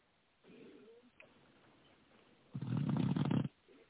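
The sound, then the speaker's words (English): A person who has fallen asleep during a show snores: a soft, breathy intake, then one loud, rasping, low rumbling snore lasting about a second, followed by quiet. No one speaks. “Man, this motherfucker here going dead head to sleep.”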